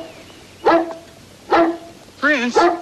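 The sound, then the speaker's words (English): The neighbor's dog barks several times: two loud, separate barks spaced about a second apart, then a quick pair of higher, yelping barks in a row. “So, after a spontaneous midnight swim, we cut to the next day, where the neighbor's dog is reacting the way the burnt housekeeper did when she, too, realized that Lucky was evil.”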